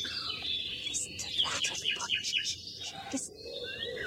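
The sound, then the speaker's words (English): A nightingale sings a quick run of bright chirps and whistled trills, fairly quiet, over a steady low outdoor hiss. “It's a nightingale.”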